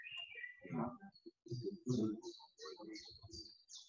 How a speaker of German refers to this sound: Die Vögel und Engel singen und ich jubiliere auch.